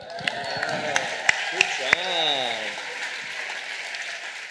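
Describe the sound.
A crowd applauds and cheers for the speaker's children after the Lord's Prayer, in a steady, dense roar, with a few sharp louder claps standing out early and rising whoops and shouts from voices in the middle.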